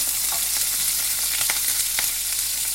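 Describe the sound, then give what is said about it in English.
Juicy prawns fry in a hot pan with a steady, hissing sizzle, broken by a few sharp pops and spits of oil. No one speaks. “And then I'm going to put in the prawns. Now these might spit a bit because they're juicy.”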